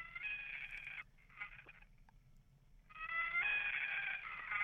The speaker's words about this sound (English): Wow, it sounds a little bit like a peacock from what I can hear. But That is the Gavia immer, or common loon, which in Europe it's known as the Great Northern Diver.